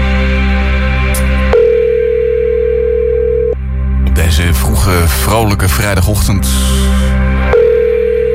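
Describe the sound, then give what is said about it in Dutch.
An outgoing phone call's ringing tone, calling a quiz contestant: a steady electronic beep lasting about two seconds, a pause filled with someone talking over background music, then the tone sounding again, clear. “Hey Vita, je moet wel je telefoon opnemen.”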